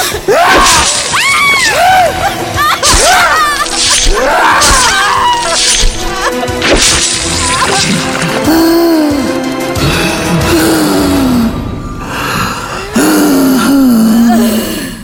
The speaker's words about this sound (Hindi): अंदर से चीखें, बुरी तरह चीखें आ रही थी और हम बाहर पत्थर की तरह जमे हुए सिर्फ उन्हें सुन सकते थे और कुछ नहीं कर सकते थे।